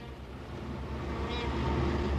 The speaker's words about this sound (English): We are in Calcutta. As the overloaded trams and buses grind and honk in the street outside, we visit the All India Institute for Hygiene and Public Health.